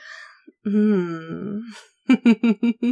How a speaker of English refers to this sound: I should have sensed that you were worked up just by your breathing.